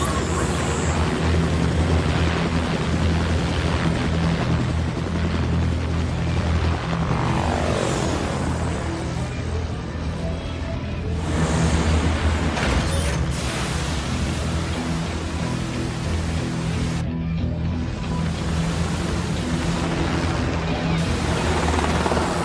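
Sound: helicopter rotor flying overhead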